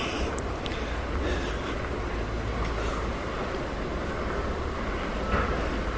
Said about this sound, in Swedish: Och då kommer du ut till järnvägsspår. Och det här är då spår 4A. Måste det vara. Här finns det en skylt också där det står: hej, ursäkta röran. Här bygger vi Karlstad resecentrum.